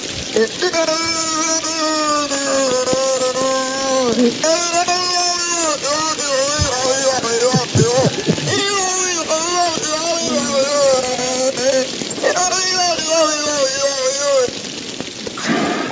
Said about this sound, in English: But it's been rumored that these whales can emit noises that sound like humans talking. And for the first time, they've actually recorded Knock the whale making these noises, and they have it on tape.